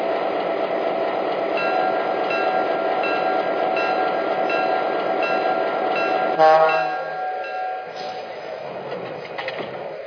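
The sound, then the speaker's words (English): A passenger train, the Atlantic Limited, train number 42 from Montreal, rumbles steadily with a broad mechanical roar as it arrives on track 1 at a station platform. Around the midpoint there is a sharp hiss and clank as it slows and settles, leaving quieter ambient noise. “from Montreal on track 1, train number 42, the Atlantic Limited.”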